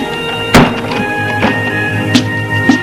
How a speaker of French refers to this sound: Ils entrent. Et elle ferme la porte.